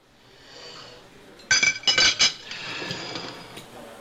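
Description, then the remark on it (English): A quick cluster of bright metallic clinks as silverware clatters together after finishing dinner, followed by the scraping rasp of a plate being pushed away along a kitchen counter, fairly loud with no one talking. “For example, I couldn't find the sound of finishing dinner and pushing the plate away, so I recorded that clatter of silverware and sliding of a plate along my kitchen counter,”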